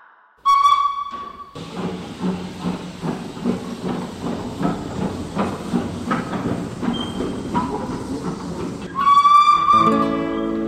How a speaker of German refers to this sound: Meine Damen und Herren, Achtung an Gleis 10. Die Türen schließen selbsttätig. Vorsicht bei der Abfahrt.